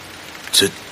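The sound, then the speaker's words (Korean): Steady rain hisses softly throughout, and a short burst of a voice calling out "Who's there?" rises over it partway through before the patter carries on alone. “빗소리 사이로 퍼지는 자신의 목소리가 턱없이 작았다.”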